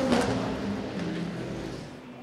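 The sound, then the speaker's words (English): A race car in the IMSA WeatherTech Sports Car Championship, driven by a Danish driver, pulls away from the pit lane after a right-front tire issue, its droning engine note holding steady and fairly loud for a couple of seconds amid broad background noise. “a mechanic noticed when they dropped the car off the air tracks. So it's Michelle Gatting who's taking the car out”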